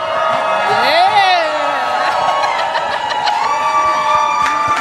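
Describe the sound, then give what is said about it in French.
A lively audience cheers and whoops as a guest is introduced, with high rising shouts over a steady roar of voices, while sharp, irregular thumps of hands banging on tables punctuate the din throughout. “S'il vous plaît, tapez ces tables. Faites du bruit. Soyez bruyants.”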